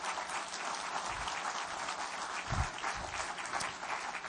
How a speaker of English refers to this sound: Give the Lord a good clap offering this morning. Would you do that?